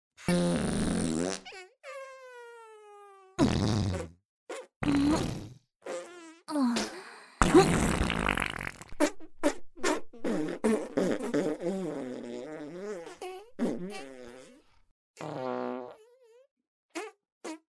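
A long run of loud farts, some drawn-out and squeaky with wavering pitch, others short, sputtering blasts, separated by brief silences. No one speaks.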